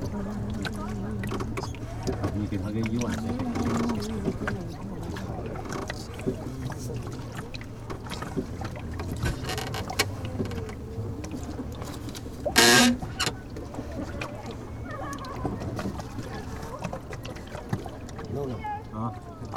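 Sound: boat moving on water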